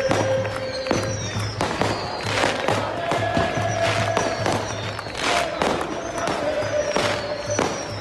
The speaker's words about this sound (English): Fireworks, baby, up and down the street.